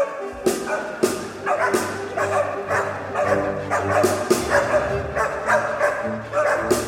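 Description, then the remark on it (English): Several dogs bark and yip repeatedly, loud, over a full orchestra playing sustained chords, the barks breaking through the music at irregular intervals, in the third movement of a hunting symphony that is written to bring in the dogs. “And one reason might be because the third movement of the symphony requires dogs.”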